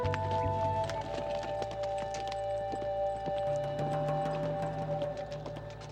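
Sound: horse hoofbeats riding away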